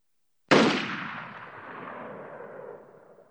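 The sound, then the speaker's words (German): A single sharp gunshot cracks out after a brief silence, then a long hissing, whistling ricochet tail slowly fades over a few seconds, like a movie western shot. “Dieser pfeifende, zischende Laut gab ihm für einen Moment das Gefühl, sich in einem alten Western zu befinden, mit Schurken und Helden, die aufeinander feuerten.”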